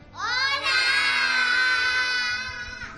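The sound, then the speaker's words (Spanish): A group of children at a school shouting together in a loud, sustained, high-pitched cheer of welcome that swells quickly and holds for a few seconds before fading slightly. “Al loro el recibimiento.”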